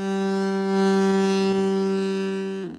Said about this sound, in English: When they install it in their car, they think it sounds like people are waving and just trying to. But in actuality, it sounds like you're laying on a horn.